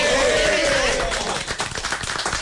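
Studio applause swells into a dense patter of many hands clapping, growing more distinct and rhythmic toward the end, with a faint tonal murmur of voices underneath at first.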